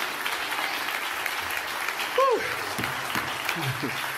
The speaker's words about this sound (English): I feel like I'm preaching good. And y'all cheering me on makes me feel like I'm preaching good, but I can't yell at you,